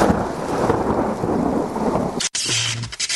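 A thunderstorm: heavy, steady rain hisses over a deep, loud rolling rumble of thunder, before a sudden brief cutout and a sharper, crackling burst near the end.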